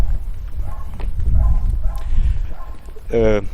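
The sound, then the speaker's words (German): A small dog barks behind the gate of a butcher's shop, its snout poking out under the gate, in a series of short, high yaps, ending with a louder, sharper bark over low rumbling background noise. “Guckt unter dem Tor quasi so ein kleines Hundemaul durch.”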